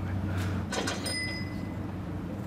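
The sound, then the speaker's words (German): A cash register sound rings in a trading room, signalling that a customer is buying or selling: a couple of mechanical clunks from the drawer, then a bright, high bell ding that sustains briefly and fades over a low steady hum. “Dieser Ton macht uns glücklich. Er bedeutet, dass gerade ein Kunde kauft oder verkauft.”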